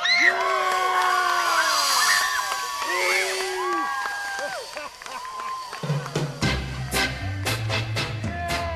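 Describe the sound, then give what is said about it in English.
A chorus of excited young campers shrieks and whoops over one another, loud, with overlapping cheers, as they race down a long zip line at the end of a high obstacle course at a summer camp in Kansas City; midway through, music with a steady beat joins the screaming. “But in the end, they all scream with exhilaration as they race down the long zip line at the end.”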